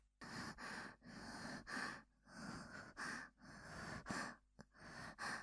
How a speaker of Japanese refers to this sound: 息遣いが近づいてきた。